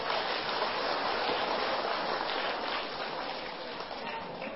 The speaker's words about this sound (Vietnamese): Nếu việc làm đó là có thể thực hiện được, xin các cháu hãy dành một tràng vỗ tay thật to.